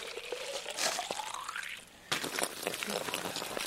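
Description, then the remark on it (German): A stream of fresh groundwater pours into an empty plastic bottle at a tree strip on a farm in Brandenburg, Germany, its hollow gurgle rising steadily in pitch as it fills, then turns to a louder, splashy rush of water spilling over. “Dazu hält er schließlich eine leere Plastikflasche in den Strahl.”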